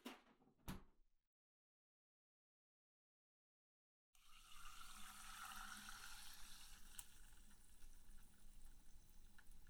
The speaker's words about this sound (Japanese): シュワシュワっていい音ね。炭酸入りのジュースの音。でも待った、もしかしたらジュースじゃないかも。